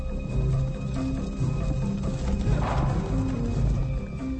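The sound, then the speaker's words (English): A horse's hooves clatter in a steady, fast rhythm, loud, over a dense rumbling background, with no one speaking. “Be one with the horse.”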